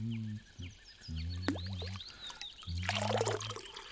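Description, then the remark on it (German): Beethoven ladles water from a healing spring in a temple-like building in a spa park and pours it into his drinking cup, ending in a splashy trickle, while a low droning hum comes and goes and birds chirp in the background. “Beethoven schöpft mit einer Kelle das schmackhafte Wasser in seinen Trinkbecher.”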